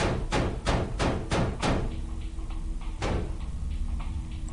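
A hand slams against a wall in a quick, even burst of about six hard thuds, then one more heavy slap after a short pause, with a low hum underneath.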